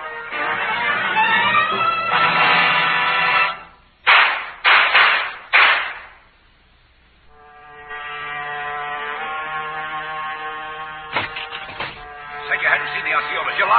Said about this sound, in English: Man, that shooting just now.